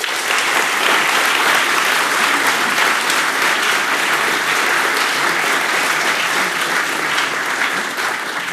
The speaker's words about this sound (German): Einen großen Applaus für alle Trolle bitte.